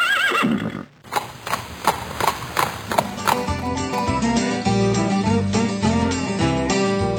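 A horse gives a short, wavering neigh, then hooves clip-clop in a steady rhythm for a few seconds before a bright musical bed takes over.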